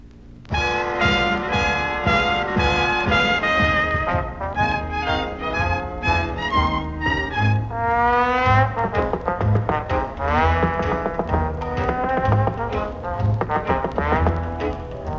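An old-fashioned song plays from a vintage record on Scratchy Grooves, with a singer's voice over a lively band accompaniment, steady and fairly loud throughout.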